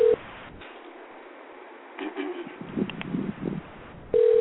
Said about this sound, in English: I got a number. We're about to call her. Let's see if she pick up.